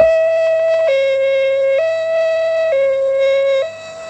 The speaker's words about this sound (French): À ce moment-là, la voiture des pompiers remonte la rue.